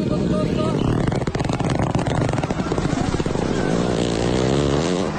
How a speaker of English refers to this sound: That is a hippopotamus fart, that ladies is. And gentlemen.